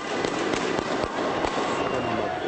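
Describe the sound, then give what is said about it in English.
Firecrackers set off by Fatah activists celebrating overnight in the streets of Gaza pop irregularly, several sharp cracks bursting out over a dense, constant wash of street noise, honking horns and crowd murmur, with no single voice standing out. “Fatah activists celebrated in the streets of Gaza overnight, honking horns and setting off firecrackers.”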